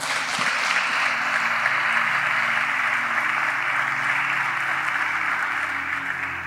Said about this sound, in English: Clap for Jesus.